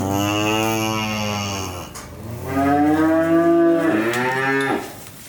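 A cow moos twice, loud and drawn out, each low, rich call lasting a couple of seconds with a slight bend in pitch, separated by a brief pause and no talking.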